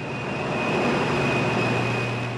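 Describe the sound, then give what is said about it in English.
Giant steam turbines at PG&E's Diablo Canyon nuclear plant on California's central coast, driven by steam from its two reactors and generating electricity, give off a loud, steady roar, with a low hum and a thin high whine running constantly through it. No one speaks. “The two nuclear reactors here generate steam that drives these giant turbines you're hearing, which in turn generate electricity to power about 3 million households.”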